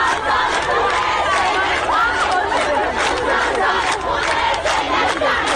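protesting students chanting slogans

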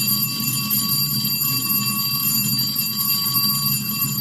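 school bell ringing

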